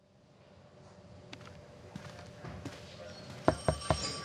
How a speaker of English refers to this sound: It looks like Kate Shepard's receiving a call from a burner phone. That was sooner than I expected. Run the trace.